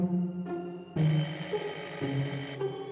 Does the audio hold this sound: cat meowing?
no